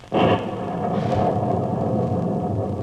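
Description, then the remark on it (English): A sudden loud crack of thunder breaks in, then settles into a deep, steady rumble that rolls on for a couple of seconds with no voices. “What's that? Thunder?”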